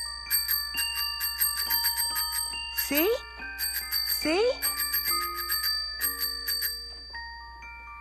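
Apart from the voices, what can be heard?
tricycle bell ringing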